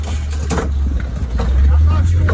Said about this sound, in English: Okay, so then they take off in the car.